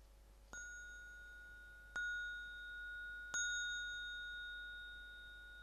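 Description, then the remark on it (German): Three bright chimes from a small singing bowl at the end of a meditation exercise, struck at a slow, even pace, each ringing out with a long sustained tone that overlaps the next. No voices, just the clear resonant ringing. “Am Ende hören Sie den dreifachen, hellen Gong einer kleinen Klangschale.”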